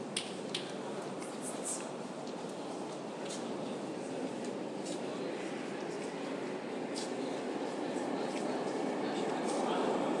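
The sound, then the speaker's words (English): A train approaches a station platform with a steady, broad rumble and rushing roar that slowly builds in loudness over several seconds, with faint indistinct voices in the background. “It sounds like there's a train coming already.”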